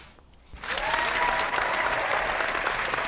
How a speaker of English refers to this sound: Yes, and the crowd goes wild.